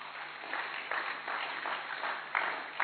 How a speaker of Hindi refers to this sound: बड़ी अच्छी इनकी ऑब्जर्वेशन है, ताली बजाएं भाई।